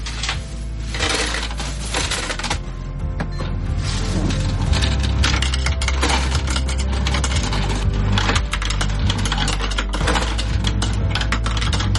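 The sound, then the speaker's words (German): A coin counting machine in an office whirs steadily while coins rattle and clatter through it in a dense, continuous stream, fairly loud, with no talking. “Wir haben eine Zählmaschine bei uns in unserem Büro.”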